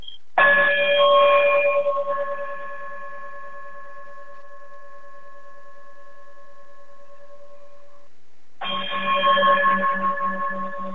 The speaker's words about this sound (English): if you would be so kind to, if you would, chime us out of here, and we'll talk to you all later.